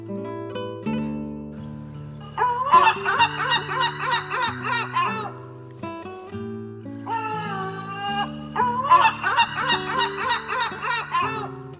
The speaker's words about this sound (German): Das war die Mittelmeermöwe.